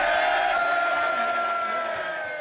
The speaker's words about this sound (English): And the cheering and the booing and the clapping goes on for quite a while.